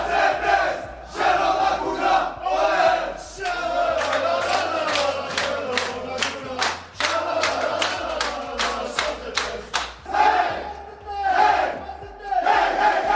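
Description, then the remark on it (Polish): The AZS Zielona Góra team celebrates its first win of the 2020-2021 season, over Grunwald, tossing the team manager in the air, with loud, overlapping cheers and shouts, rhythmic clapping bursting through the middle, while a steady low tone hums underneath throughout. “kończąca mecz, wielkie szaleństwo, podrzucanie się, wszyscy tam szaleją, ścigają się, kochają, całują, podrzucają nawet kierownika drużyny”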